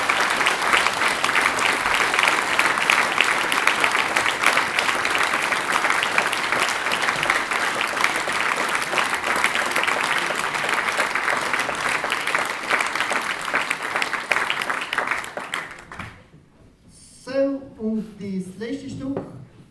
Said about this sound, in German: Wenn ihr es nicht mehr hört, sie klatschen noch, vielleicht machen wir ein paar Zuhörer.